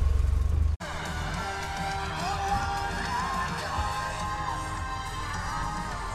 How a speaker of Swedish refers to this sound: Och här kommer ena bilen efter den andra. Gamla bilar, nya bilar. En massa bilar är här.